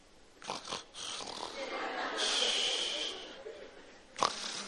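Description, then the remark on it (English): A voice imitates snoring with rough, breathy rasps, a long drawn-out wheezy inhale in the middle, and a sharp snorting burst near the end, moderately loud with no other talk. “I hear this snoring.”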